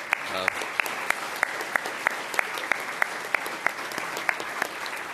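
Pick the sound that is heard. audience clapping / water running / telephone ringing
audience clapping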